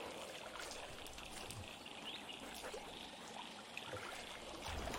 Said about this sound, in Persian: آهو از برکه جنگلی با درختای بدون برگ آب میخوره.